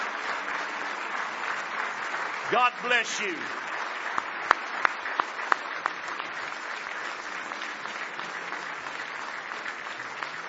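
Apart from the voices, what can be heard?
standing ovation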